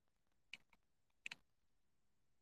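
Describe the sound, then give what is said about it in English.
A few sharp computer keyboard key clicks, irregularly spaced with a quick double tap in the middle, fairly quiet against a hushed background with no talking. “Oh, does my keyboard sound nice to you guys?”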